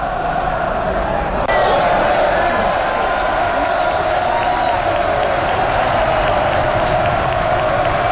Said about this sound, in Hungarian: Ez egy foci meccsen vettem fel ezt a tapsot.